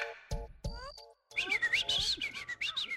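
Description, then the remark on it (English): A neurobiologist whistles a few short, clear notes and rising sweeps, then breaks into a fast, warbling run of chirps that imitates birdsong, fairly loud, with no talking. “The whistles you just heard are from”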